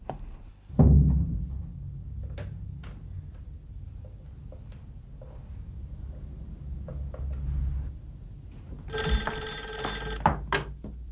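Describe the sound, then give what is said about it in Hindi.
Scattered clicks and ticks over a low rumble, then near the end an old telephone bell rings in one short, bright burst. No one speaks. “माफ कीजिएगा, एक फोन कर सकती हूँ?”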